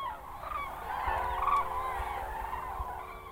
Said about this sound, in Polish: Nie możemy powiedzieć, że część z nich została. Może się okazać, że w nocy przyleciały na ich miejsce inne i po prostu się wymieniły. Także te żurawie widzimy, ale tak naprawdę to nie wiemy, które to są.